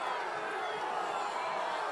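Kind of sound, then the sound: crowd, crowd booing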